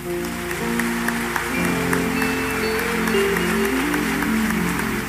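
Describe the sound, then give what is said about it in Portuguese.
An audience at a church service applauds Jesus steadily for the full five seconds, a dense, even wash of clapping over sustained keyboard or organ chords playing underneath. “Aplauda Jesus essa.”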